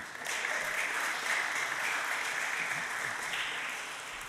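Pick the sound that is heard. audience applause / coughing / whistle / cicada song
audience applause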